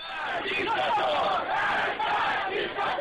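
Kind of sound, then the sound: crowd, crowd of demonstrators chanting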